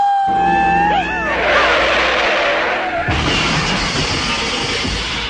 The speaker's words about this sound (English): Whoa, that was one heck of a car crash.